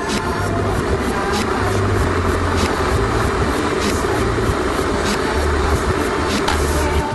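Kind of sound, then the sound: household object, electric kettle boiling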